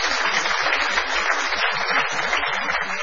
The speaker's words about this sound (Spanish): Hoy, hace 110 años, Punta Alta se sumaba a la patria. Sí, señores, un aplauso para Punta Alta.